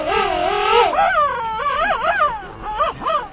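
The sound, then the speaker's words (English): A pair of king penguins in Antarctica, standing face to face with heads tilted back and long bills pointed skyward, trumpet together, their loud, warbling calls rising and falling in pitch and overlapping in wavering harmonic phrases for a few seconds, with no talking. “A pair of king penguins stands face to face. They tilt their heads back, point their long bills skyward, and trumpet in unison.”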